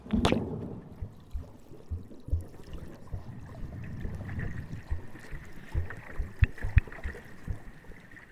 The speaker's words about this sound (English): So what I'm hearing under the sea is lots of gurgles. You can obviously hear the water hitting the boat. It's amazing how quiet it is, actually.